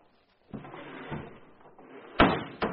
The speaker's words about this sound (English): Here, I'll unhook the door.